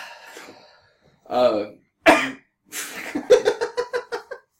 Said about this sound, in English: I thought you were going to cough.